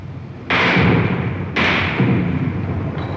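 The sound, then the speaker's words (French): Two sharp, heavy impacts about a second apart, bullets slamming into a wall as someone fires bursts of gunfire, each leaving a loud, rumbling noisy wash that lingers to the end. “Il tire à la mitraille, vous entendez les balles qui claquent contre le mur.”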